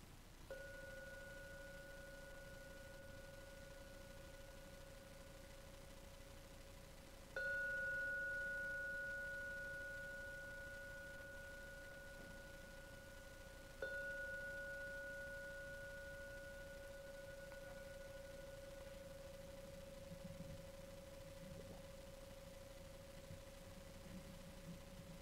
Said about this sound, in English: So I'm now going to ring the gong 3 times to end the meditation. So please listen to every sound of the gong and only let the 3rd ringing take you out for your meditation.